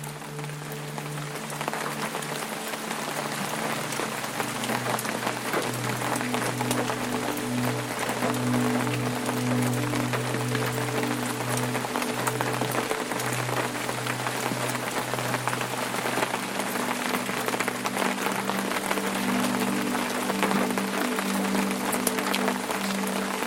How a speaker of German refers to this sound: Der Regen wird stärker. Ein feiner, dichter Vorhang von Tropfen senkt sich über die Wicklows.